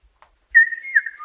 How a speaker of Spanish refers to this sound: tener la capacidad de silbar y aprender a silbar de esa manera y poder convertir cada palabra entonces en silbo.